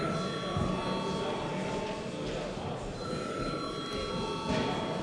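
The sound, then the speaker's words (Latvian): A continuous electric bell rings steadily for the full length in the chamber of the Latvian parliament, the Saeima, calling members to a vote: a sustained metallic tone with a murmur of voices and room noise underneath. “Paldies, lūdzu zvanu.”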